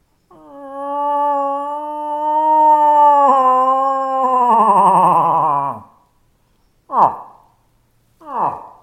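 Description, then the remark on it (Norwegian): An imitated cow moose call used during the rut to lure in bulls: one long, drawn-out moaning wail, loud and harmonic with a slightly wavering, gradually falling pitch, then two short, sharp downward grunts after a brief pause. “når du bruker den lyden når det brunsttid”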